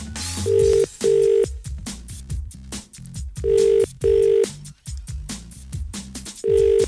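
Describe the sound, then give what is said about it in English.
An outgoing phone call to a quiz contestant in a Munster county, made to check their answers, rings in the classic double-burst pattern: three pairs of steady ringing tones spaced by pauses, over a bed of background music. “I'm going to ring them now, though, and see if they've gotten those questions right.”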